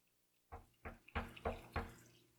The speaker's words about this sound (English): It's a knock. The sound of knocking.